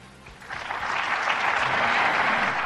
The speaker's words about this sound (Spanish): Y todos los empresarios catalanes del Círculo de Economía aplaudiendo allí, venga, viva Pedro, qué bien, nos va a quitar la mascarilla él mismo aquí en persona, de la oreja de atrás.